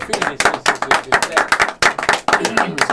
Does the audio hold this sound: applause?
yes